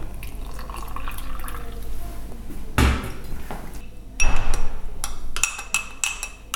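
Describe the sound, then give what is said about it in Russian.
Water being poured into a milk-free placebo formula for children allergic to cow's milk, in a container. A sharp knock comes first, then a few seconds of uneven splashing and trickling with light clinks, and no voices. “Так что берем это, добавляем воду.”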